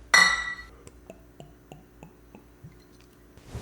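Glasses clink together once in a toast, bright, with a ringing tone that fades out, followed by a series of soft, evenly spaced gulping sounds, with no talking.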